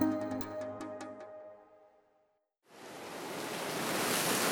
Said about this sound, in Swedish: Regnet faller lätt över havet utanför Trinidad och Tobago i Karibien.